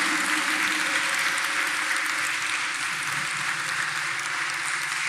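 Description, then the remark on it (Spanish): An audience claps steadily as a preacher invites applause for the King of Glory, a dense, continuous wash of applause holding at an even, fairly loud level for about five seconds with no voices rising above it. “Yo te invito a que le des un aplauso al Rey de Gloria.”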